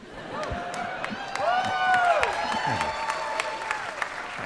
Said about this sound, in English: Now you guys are applause crazy.